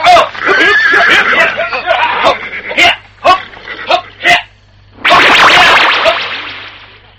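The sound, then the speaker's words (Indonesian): A horse whinnies loudly, a long shrill neigh, followed by sharp cracking snaps like a whip and then a second drawn-out, breathy whinny that fades away, as riders mount their horses. “Mari, naiklah ke kuda masing-masing. Teman-teman, naik ke kuda masing-masing.”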